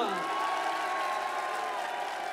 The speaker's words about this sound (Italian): Un applauso per i …!